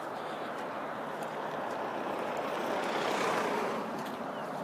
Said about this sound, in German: Oh, Scheiße. Jetzt kommt auch noch ein Auto.